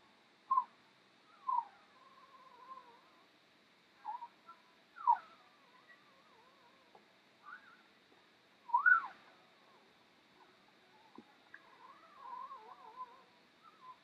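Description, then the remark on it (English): Healthy newborn puppies give scattered high, squeaky yips and short whiny chirps, some rising and falling in pitch, with soft murmuring between them over a quiet, steady background. “Those yips and purrs are normal sounds of healthy puppies.”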